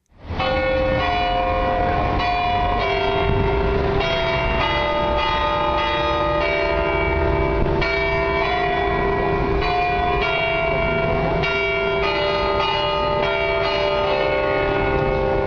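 Several large church bells of Notre-Dame de Paris cathedral peal together continuously, their overlapping strikes blending into a dense, resonant wash of ringing tones with long sustained hum, loud and steady throughout, with no voices.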